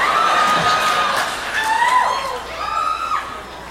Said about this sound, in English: That clapping's messing my head up, man. I appreciate it, but I was trying to think of the next line. I'm like, all I hear is clapping.